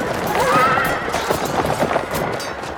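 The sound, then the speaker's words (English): A wild horse, ridden at speed without a saddle, whinnies sharply near the start while rapid hoofbeats pound along steadily underneath as it gallops through a low city gate, a fairly loud, busy galloping sound that carries through to the end. “he once managed to tame a wild horse at speed without a saddle and despite being knocked off the animal as it galloped through a low city gate.”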